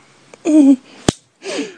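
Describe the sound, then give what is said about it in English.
A single sharp, crisp smack of a hand slapping a bare breast, landing between two breathy, wordless vocal sounds. “Slap your tit for me.”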